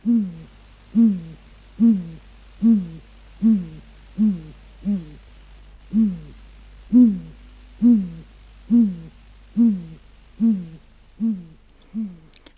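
A great grey owl gives a long, steady series of about fourteen deep, low hoots, evenly spaced roughly a second apart, clear against a quiet background with no talking.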